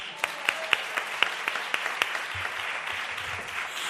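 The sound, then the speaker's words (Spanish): A burst of audience applause, many hands clapping together in a dense, steady patter with a few sharper claps standing out at first, then settling into an even wash. “Otra cosa, sí, un aplauso.”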